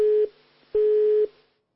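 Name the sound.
phone busy tone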